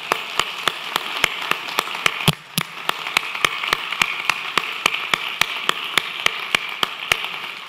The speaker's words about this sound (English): Let's applaud each other, okay?